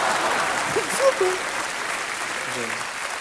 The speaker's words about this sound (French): 16 millions de spectateurs dans le monde entier, un Oscar du meilleur acteur, je crois que rien que pour ça, bah, on peut vous applaudir.